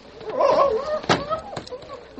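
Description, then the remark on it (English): A dog named Flash howls inside a barn in a drawn-out, wavering cry that rises and falls in pitch, followed by a sharp thud and a softer knock near the end. “He saw the vacant run, but at the same time, he heard Flash howling inside the barn.”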